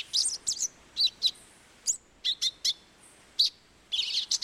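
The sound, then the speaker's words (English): A thick-billed euphonia, frightened by a predator near its nest, gives a run of sharp, high, buzzy chip notes mimicking the alarm calls of other birds nesting nearby, in short irregular bursts with brief pauses between them and no talking. “frightened by a predator near its nest, a thick-billed euphonia imitates the alarm calls of other birds nesting nearby.”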